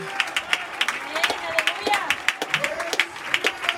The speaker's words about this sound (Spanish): Denle palmas al Señor. ¿No es bueno Él?